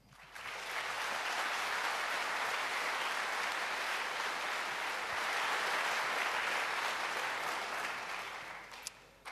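An audience claps steadily for about nine seconds, a dense, even wash of many hands that holds its loudness before tapering off at the end, with no talking over it.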